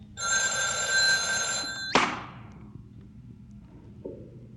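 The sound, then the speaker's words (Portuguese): An old telephone bell rings loudly for nearly two seconds, a continuous metallic jangle, interrupting the start of a recorded interview made on a Sony TC-105 recorder, then cuts off abruptly with a clunk as the receiver is lifted, leaving quiet background noise. “Uma interrupção logo no início devido ao telefone.”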